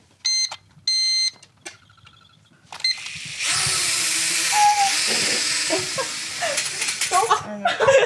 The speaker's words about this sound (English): It's a drone, and we've been flying them around and learning how to, like, play with them and stuff and learning how to fly a drone.